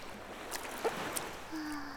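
Gentle water lapping and sloshing softly as calm waves move around someone floating on an inflatable swim ring, with a few small splashes scattered through and a low hum entering near the end. Quiet and calm, with no talking.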